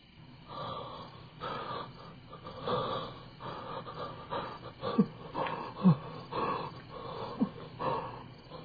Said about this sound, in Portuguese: A ausência de luz, o ruído da respiração agonizante e o pavoroso silêncio fazem Flávia recuar